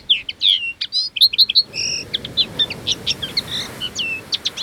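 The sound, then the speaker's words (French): A bird call whistle trills out a rapid run of bright, high chirps and warbles, fairly loud, over a steady low background rush; no one speaks. “C'est un sifflet pour appeler les oiseaux.”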